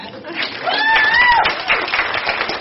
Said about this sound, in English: Should we cheer again?